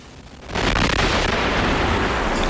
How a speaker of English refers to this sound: Give me a... Can I have the better explosion, please?